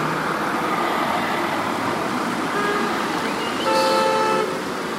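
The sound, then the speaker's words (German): A semi-trailer truck carrying a city bus rolls onto the site with a steady engine rumble and road noise, and a brief high tonal toot sounds near the end. No one speaks. “Jetzt rollt der erste Sattelschlepper mit dem ersten Bus auf den Platz.”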